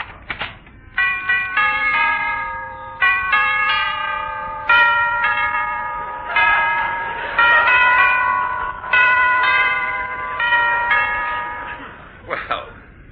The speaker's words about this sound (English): That's an unusual doorbell.